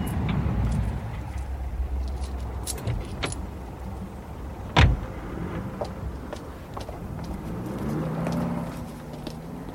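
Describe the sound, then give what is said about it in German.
A chauffeur-driven car's engine rumbles low and steady, then the vehicle slows and halts by Kensington station, with a sharp click or thump midway and faint rattling, mechanical sounds as it settles. No one speaks. “Gut, Herr Chauffeur, Sie können hier halten.”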